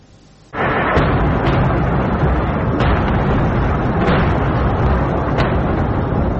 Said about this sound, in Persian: موشک باران بندر لازقی در غرب سوریه بامداد سه‌شنبه. دیدبان حقوق بشر سوریه میگوید که این حمله میدان کانتینرها را هدف قرار داده. بنابراین گزارش، این موشک ها توسط نیروهای اسرائیلی از دریای مدیترانه شلیک شده بودند.